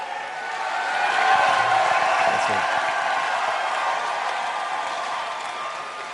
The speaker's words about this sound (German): François Hollande steht auf dem Pult, macht sich bereit. Schaut in die Menge, genießt den Jubel, der ihm entgegenbrandet und grinst und winkt.